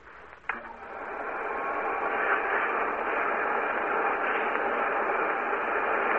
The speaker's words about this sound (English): We have that vacuum cleaner with us today. We're going to attach it to the studio organ and then play. This is the vacuum cleaner. Listen.